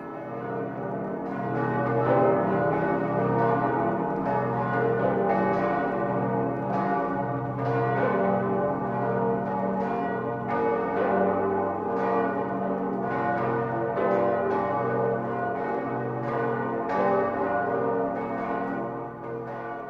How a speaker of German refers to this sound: Erstmals zur Jahrtausendwende schallte sie zusammen mit den 12 anderen Glocken über das Vorharzland.